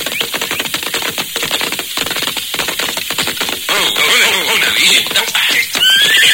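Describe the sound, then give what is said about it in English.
Worn-out horses whinny loudly, their neighs rising over a busy, steady clatter of hooves clip-clopping on hard ground, with sharp high squeals near the end. “The horses are too near worn out to make it a mess time.”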